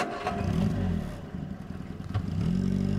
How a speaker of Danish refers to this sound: Så han kan pakke sin Olympus rejseskrivemaskine sammen, sætte sig i bilen og køre videre til den næste sag.